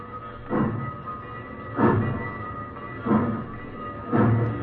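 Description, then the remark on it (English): A train rolls steadily along the tracks across fields and plains on its way to Mexico, with a low continuous rumble and four evenly spaced heavier clunks, roughly one every second and a quarter, like wheels passing rail joints. No one speaks. “The train rolled across the fields and plains and sang out at night on its way to Mexico.”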